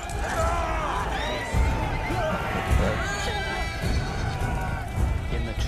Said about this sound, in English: They turn their horses and ride away.